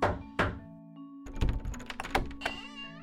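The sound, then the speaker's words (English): Two firm, hollow knocks on the door of Ross's drugstore in Villisca, about half a second apart, followed by a quieter stretch of soft thuds and rustling over a low steady hum. No one speaks. “After 2 months, he knocked on the door of Ross's drugstore and revealed his true identity.”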